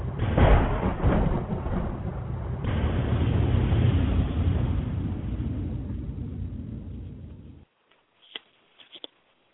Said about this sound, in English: I bring the motherfucking thunder.